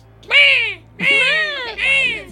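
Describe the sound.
A person imitates a crow, giving three loud, harsh caws in quick succession, each a drawn-out, raspy vocal cry.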